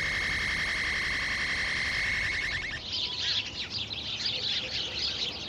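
A steady, buzzing tonal drone gives way to a flurry of busy, overlapping sparrow chirps, fairly loud, with no one talking.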